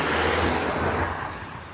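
car driving past

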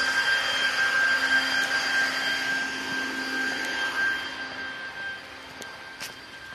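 leaf blower running

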